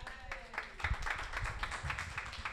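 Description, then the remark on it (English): An audience applauds the outer space science fiction comedy troupe Oz 9 in a steady burst of many overlapping claps, a dense crackling roar that stays fairly even for a couple of seconds with no clear voices. “But other than that, let's give another round of applause for Oz 9.”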